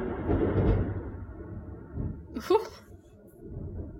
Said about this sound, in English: That was lightning, you guys. lightning and thunder. I said lightning instead of thunder.